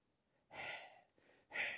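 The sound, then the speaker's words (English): A person forcefully huffs two hot, angry breaths through the nose in imitation of anger, each a loud, hissing burst under a second long, with a brief pause between them and no talking. “The word here for anger is a word that means hot breathing.”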